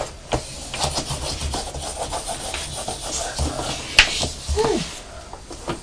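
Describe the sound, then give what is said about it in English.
An orange pencil scratches and rubs across paper, drawing around the shape of a cat, in a steady run of uneven, raspy strokes, moderately loud, with a brief faint squeaky vocal sound near the end. “Draw around the shape of the pussycat.”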